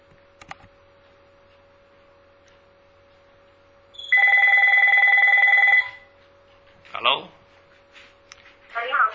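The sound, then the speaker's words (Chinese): A single loud electronic telephone ring, as an outgoing call is placed, lasts about two seconds over a steady low hum, followed by a few short bursts of speech. “这样我打你电话吧。”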